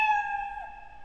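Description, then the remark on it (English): A single drawn-out cat meow sound effect played by a block-based coding program, a steady tonal cry with a slight dip in pitch partway through, heard clearly on its own with no talking. “Why am I only hearing one meow?”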